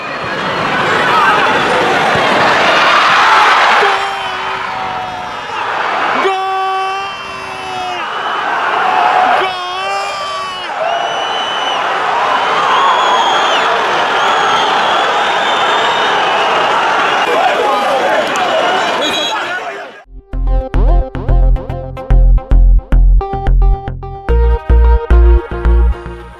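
A stadium crowd, recorded in the front rows of the Dalus stadium in Lisbon, roars and cheers loudly and steadily for about twenty seconds at Mitrović's 90th-minute headed goal, with whoops and high shouts rising through the din, before it cuts abruptly to rhythmic, pulsing music.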